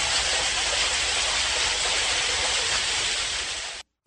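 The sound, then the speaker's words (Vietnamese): Steady, dense roar of heavy rain pouring down and rainwater gushing into drains, loud and unbroken for nearly four seconds before cutting off abruptly. “Tiếng nước mưa chảy ầm ầm vào cống rãnh, hòa vang cùng tiếng mưa rơi ào ạt.”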